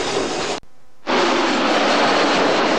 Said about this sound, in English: As you can hear, there's a Freightliner train running past me on the opposite road back towards Stratford.